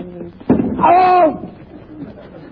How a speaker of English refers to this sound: Oh! I fell over a chair!